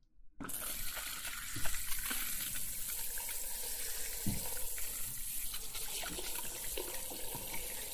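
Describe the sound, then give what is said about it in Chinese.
A tap turns on after a brief silence and water runs steadily for a hair wash, a continuous hissing gush with occasional splashes and soft knocks, no voices. “好了，我们开水了，水温不合适的话，你跟我说啊。”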